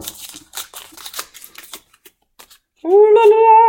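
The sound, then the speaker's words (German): Crisp rustling and crinkling of a paper slip being drawn and unfolded, in quick irregular bursts, thinning out to a few soft handling sounds, then a voice begins at the end. “Raschel. Und ich mach's auf.”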